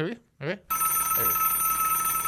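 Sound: telephone ringing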